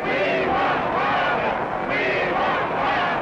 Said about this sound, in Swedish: Och det här talet avbryts ju flera gånger av jubel och applåder och skanderingar som på en hockeymatch. Bara, we want Wallace! We want Wallace!